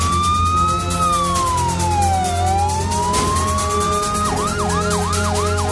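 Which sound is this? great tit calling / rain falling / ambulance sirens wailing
ambulance sirens wailing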